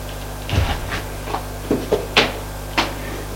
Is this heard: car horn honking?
no